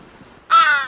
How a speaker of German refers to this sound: Ich dachte ja erst, es wären meine Insta-DMs, aber das sind einfach Vögel.